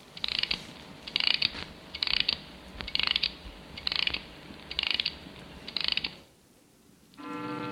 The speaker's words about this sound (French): Je vais remonter l'horloge pour me donner du sérieux.